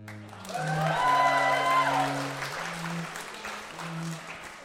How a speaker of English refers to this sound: It's a new school year at Hogwarts School of Witchcraft and Wizardry. Applaud.